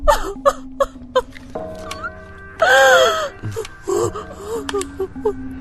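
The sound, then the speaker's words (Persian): Someone gasps and whimpers through a stretch of shaky, wailing crying, with a loud sustained sob in the middle and broken, breathy sounds around it, emotional. “گریه نکن، ما اونو دزدیدیم چون خیلی گریه می کرد.”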